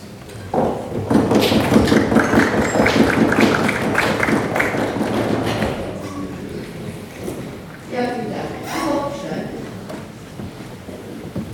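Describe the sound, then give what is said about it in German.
A loud, dense burst of frenetic audience applause at a stage event lasts about five seconds, then drops away as a voice begins speaking over faint lingering noise. “Vielleicht erstmal sage ich eine kurze Anmerkung oder ein kurzer Satz darauf, auch gerade wegen dieser Bühne und der Leute, die hier gerade hier so frenetisch geklatscht haben.”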